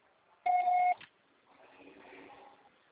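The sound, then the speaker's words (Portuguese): A single loud answering-machine beep, a steady mid-pitched tone lasting about half a second, then a faint, muffled rustling hum that follows it. “Grave, seu recado. O sofá será tarifado após o sinal.”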